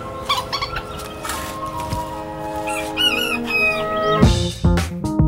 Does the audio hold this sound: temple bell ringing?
no